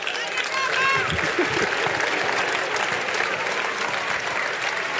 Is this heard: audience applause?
yes